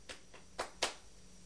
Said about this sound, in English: You're clapping your hands. Clapping your hands.